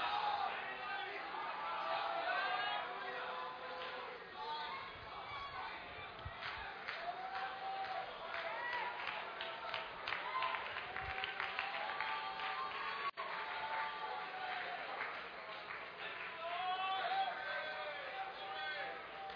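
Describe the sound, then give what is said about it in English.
An audience claps and cheers in praise of God during a church worship service, a steady wash of hand claps mixed with many raised voices calling out, sustained throughout at an even, lively level. “Clap your hands and give Him praise all over the house.”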